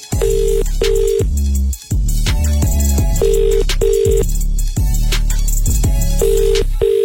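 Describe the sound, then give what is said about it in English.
An outgoing call's ringback tone, as a radio presenter calls a contest entrant back, repeats in short double pulses, three times, each pair separated by a pause. It sounds over a loud, busy background of what seems to be music, with no one speaking. “We're calling someone back right now.”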